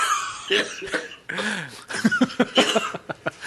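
A loud coughing fit: a burst of harsh coughs, a brief strained voiced sound, then a rapid string of short hacking coughs in quick succession.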